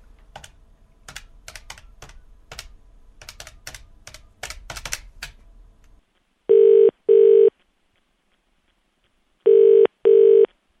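Quick, irregular clicks of buttons being pressed on a phone to make a call, followed by two bursts of a British-style double ring tone, steady and mid-pitched, with a pause between. No one speaks.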